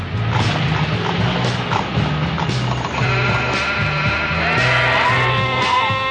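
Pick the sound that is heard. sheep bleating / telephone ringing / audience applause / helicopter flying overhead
sheep bleating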